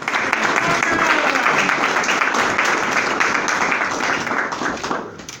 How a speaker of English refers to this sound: Let's give a round of applause for Barbara.